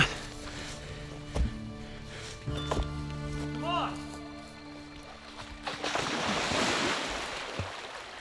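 Cold-looking water waves wash and churn before a swim, growing into a louder, steady surf-like rush in the second half, with a low humming tone underneath earlier on.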